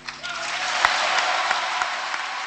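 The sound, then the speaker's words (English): A large crowd at a presidential inauguration applauds steadily as the red, white, and blue presidential sash is placed on the new president, a dense wash of clapping with scattered sharper claps and a faint undertone of cheering, sustained and fairly loud throughout with no talking. “The crowd erupted anew when the red, white, and blue sash of presidential power was placed around her shoulders.”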